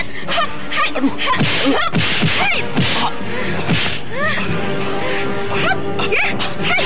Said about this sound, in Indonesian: Raden Karmapala menerima pukulan yang keras dari Paramita tanpa mengakui tubuhnya dengan kekuatan saktinya.